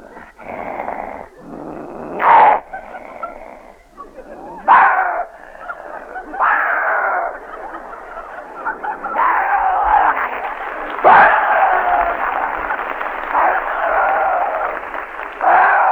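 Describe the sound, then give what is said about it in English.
A voice imitates a dog fight: continuous rough snarling and growling, broken by sharp yelps and barks, loud, building into a dense, frantic scuffle toward the end. “A dog fight.”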